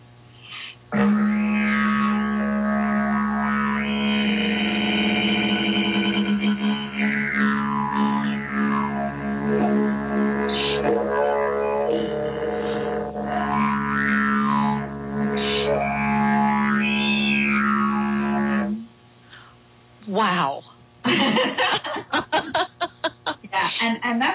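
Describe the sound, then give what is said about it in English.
A didgeridoo played with circular breathing drones steadily for about eighteen seconds without a break, its low buzzing tone swelling with shifting, wah-like overtones, then stops and gives way to a few short rhythmic pulses. “She spoke to me through the didgeridoo.”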